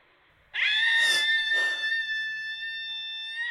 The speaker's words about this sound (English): And sometimes I just think all I need to get rid of the rage is just to scream. But I live in London, so you can't. I'm going to go out screaming. It feels fucking amazing.